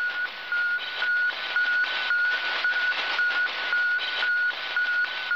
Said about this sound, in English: That strange, unearthly sound was just that, unearthly, out of this world. The transmitter beeping away on Russia's Sputnik, the first man-made satellite, 183 pounds orbiting the Earth every 96 minutes.